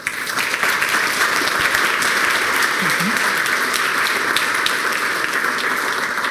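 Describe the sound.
Steady audience applause, a dense wash of many hands clapping at an even loudness for several seconds, with a faint murmur of voices underneath.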